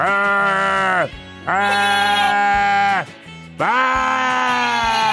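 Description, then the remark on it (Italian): A person imitates a goat with three loud, drawn-out bleats in quick succession, each strained and wavering, with brief pauses between them and no other sounds. “Certo, la capra è questa.”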